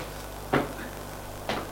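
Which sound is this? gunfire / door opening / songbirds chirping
door opening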